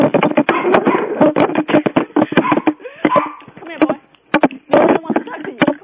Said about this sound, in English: Oh, shut it up. Shut the dog up.